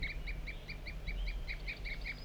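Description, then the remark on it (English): A wild bird gives a continuous series of short, evenly spaced toop calls, about five per second, high-pitched and fairly clear over a low background rumble. “Mostly the wild bird. Continuous toop.”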